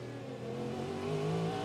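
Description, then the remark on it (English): A Cadillac race car engine drones loudly and steadily, its pitch climbing as it revs up toward the end, with no voices present. “That is the Cadillac engine you hear behind my voice at the moment.”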